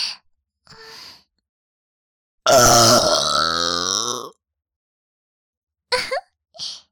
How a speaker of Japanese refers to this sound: よーし、最後に特大ゲップしまーす。いきますよ。